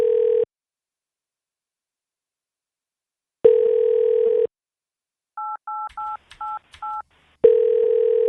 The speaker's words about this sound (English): Oh, I shouldn't play DTMF tones into the phone.